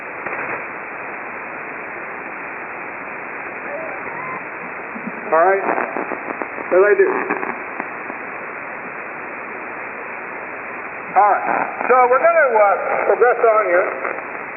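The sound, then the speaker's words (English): Constant shortwave radio static hisses throughout, broken by two bursts of warbling, whistling interference and garbled, voice-like tones, the second stretch lasting several seconds near the end. “Radio jungle. All that noise and interference and all those crappy peskies, but they're not fishermen.”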